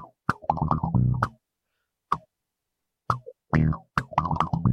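Short, punchy palm-muted bass notes run through an envelope filter, each one quacking with a quick sweep. They come in loud, choppy bursts separated by brief silences, with no talking.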